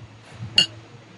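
glasses clinking

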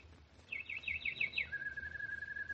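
birds singing

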